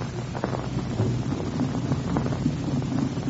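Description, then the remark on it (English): A steady, low engine drone idles evenly throughout, with a deep rumbling hum and a faint windy hiss on top, moderately loud with no voices: the two engines of a twin-engine propeller airliner, the Golden Dragon, softly idling with the propeller blades turning before its first test flight. “They are about to take off on their first test flight, and the two powerful engines are softly idling, the propeller blades lazily turning over.”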